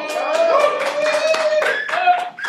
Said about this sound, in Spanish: Mentira, por favor, aplaudan.